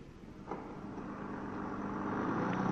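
A vintage car engine runs steadily with a low, rumbling drone that grows slightly louder and rougher over a few seconds, with no voices.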